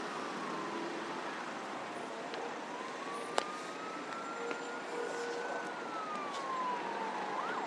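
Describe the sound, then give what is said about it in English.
Emergency vehicle sirens wail in slow rising and falling sweeps, approaching over a bridge, over a steady wash of traffic noise, with a few sharp clicks and no voices. “You can hear some more sirens coming in front of me, I think, coming over the bridge.”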